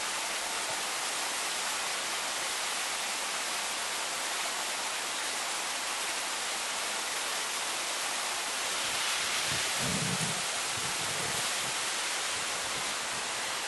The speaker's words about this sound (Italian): Quindi si formano tutta una serie di vasche definite cadini del Brenton, che sono marmitte di erosione. Sono delle grandi vasche formate appunto da queste piccole cascatelle e dai ciottoli messi in movimento da questo torrente.